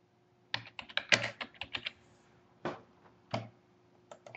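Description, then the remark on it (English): Typing a short email to author Peter Watts on a computer keyboard, a burst of quick key clicks followed by a few scattered, separate keystrokes after short pauses, with no voices. “Just typing a little email to Peter Watt.”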